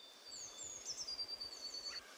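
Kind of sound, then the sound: bird, birds chirping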